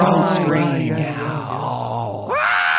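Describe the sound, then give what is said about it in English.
A goat lets out a loud, drawn-out scream that sounds strangely human, its strained, wavering cry dipping and then rising sharply again near the end. “Anyone who's anyone who knows anything about goats know that these rectangle-eyed demons make weird human-sounding screams.”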